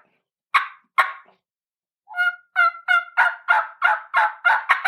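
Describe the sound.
Two sharp, short clucks made on a turkey call ring out, then after a brief pause a steady run of about nine raspy yelps on the call follows in quick rhythm, clear with no talking.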